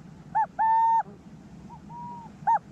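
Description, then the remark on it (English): A male owl gives a territorial two-note call at an intruding male near his burrow: a short hoot followed by a longer drawn-out one. The pattern repeats more faintly, then begins again, over a low steady background rumble. “So he'll arrive, and the first thing he does is give an alarm call, and then a cuckoo, cuckoo.”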